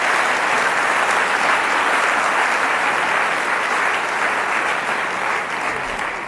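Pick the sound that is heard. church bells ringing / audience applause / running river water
audience applause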